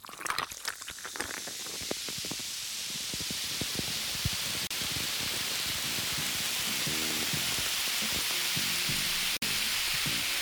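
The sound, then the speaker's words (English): A drink fizzes and crackles hard at first with dense popping bubbles, then settles into a long, steady, loud hiss of carbonation that carries on for about ten seconds without any talking. “Ooh, that's fizzy. Hello, Kristen. Hello, that's a long fizz.”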